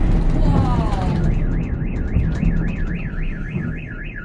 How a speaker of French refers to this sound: S-a declanșat alarma la o mașină.